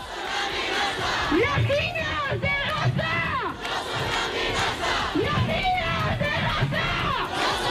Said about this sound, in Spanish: Os dejo con las consignas que están gritando ahora mismo los miles y miles de manifestantes que han decidido salir a la calle hoy. Sonido en directo en la cadena SER.